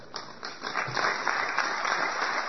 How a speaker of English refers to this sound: I've heard better clapping among environmentalists at a pro coal rally.